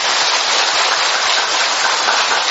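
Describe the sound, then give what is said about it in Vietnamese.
Steady, dense rain hisses evenly throughout, a loud wash of falling water with no pauses and no voices. “Nhưng mà mưa thì ngập, mưa thì giọt mà người ta vẫn đến đông, có phải là bình thường không?”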